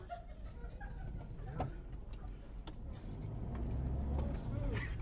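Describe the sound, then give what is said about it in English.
A van's engine rumbles along the road, growing louder toward the end as it passes by, with scattered clicks, faint bird or chicken sounds, and indistinct voices in the background. “They wait for a van to come by. And then they jump on the van.”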